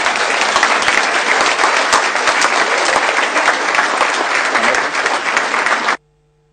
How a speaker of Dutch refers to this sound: Dames en heren, applaus voor onze nieuwe burgemeester.